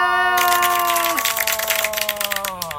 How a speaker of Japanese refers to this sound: 拍手の用意いける。